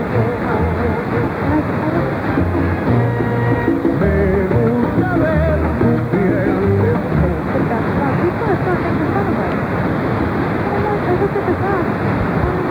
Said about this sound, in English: There is a station, as we hear a plane going over on its way to Chatham Airport.